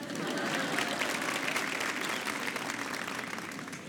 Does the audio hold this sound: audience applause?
yes